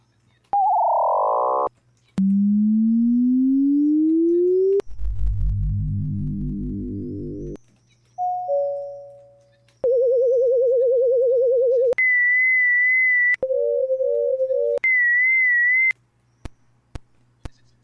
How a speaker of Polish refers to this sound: To ma być metronom.